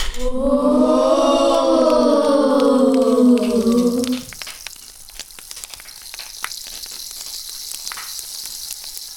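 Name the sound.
rain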